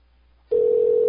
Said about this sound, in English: Is this her campaign office or what? No one's gonna answer the phone at her campaign office. How does she expect to win? Somebody answer the phone.